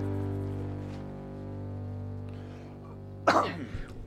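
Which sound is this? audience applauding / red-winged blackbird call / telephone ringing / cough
cough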